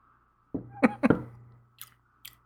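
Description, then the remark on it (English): A sip of a dry, roasted, porter-like beer: a slurp followed by two quick gulping swallows, then a couple of soft, breathy exhales. “I'm going to take a sip.”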